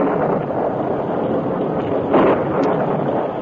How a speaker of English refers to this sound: A short time after Dan was captured and tied in the barn with Tonto, a thunderstorm accompanied by heavy rains hit the territory.